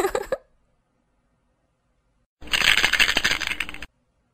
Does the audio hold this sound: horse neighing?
no